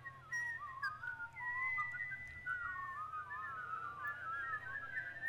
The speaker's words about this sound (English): There was once, in a land far, far away, a town of whistlers. Every person, indeed every dog and cat, mole and moose, llama and lammergeier, teamster and tea kettle, everyone and nearly everything whistled.